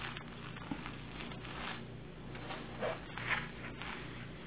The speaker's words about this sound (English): and I'll just pin the fabric down to this paper. It's kind of like wax paper.